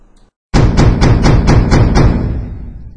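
Loud, heavy knocking on the door of the Likhachevs' apartment on a February night: about seven rapid, evenly spaced blows with a booming low thud, then a ringing decay as the last knock fades. No voices.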